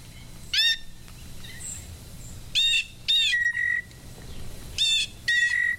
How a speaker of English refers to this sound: Birds, the blue jay, with his magnificent plumage and his variety of calls, I think he's my favorite to film and record.